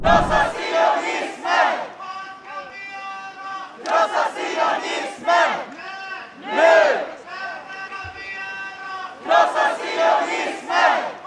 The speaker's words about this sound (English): So I can't quite make out Swedish either, but apparently the chant there is Krossa Sionismen, which means Sionismen, yeah, which means crush Zionism. This was at a pro-Palestine rally